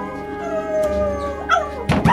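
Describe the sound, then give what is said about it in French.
A dog named Milou howls in front of Monsieur Bergamot's door in a long, mournful, wavering tone that rises and falls, fairly loud, with a couple of sharper yelping bursts near the end. “Mon chien s'est mis à hurler à la mort devant la porte de Monsieur Bergamot.”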